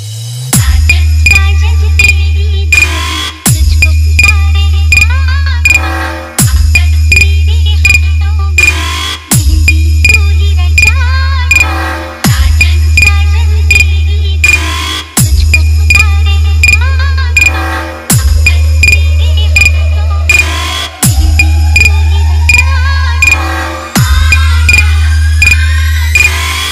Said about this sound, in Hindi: आइए अब आपको सुनाते हैं अपने डीजे का तबाही मचाने वाला vibrate base. Please play the vocal travel and base.